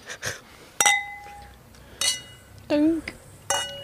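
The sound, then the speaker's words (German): Glasses of Prosecco clink together several times in a toast, each a bright ting with a short ringing tail, spaced out irregularly, with a brief murmured voice sound between them. “Beide gießen ihren bestehenden Prosecco ins Glas, würden sie austrinken, damit ihr den Grad an Hedonismus versteht, den wir da leben”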